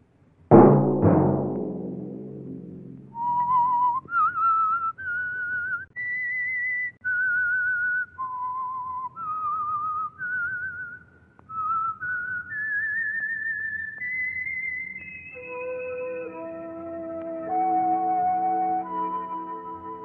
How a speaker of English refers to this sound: Let that whistle be your signal each Sunday for the Signal Oil program, The Whistler.